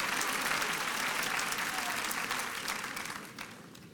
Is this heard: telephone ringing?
no